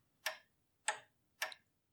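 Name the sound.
clock ticking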